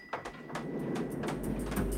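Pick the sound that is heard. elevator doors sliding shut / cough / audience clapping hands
elevator doors sliding shut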